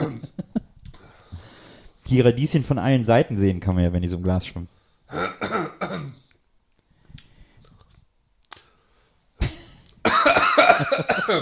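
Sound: coughing and throat clearing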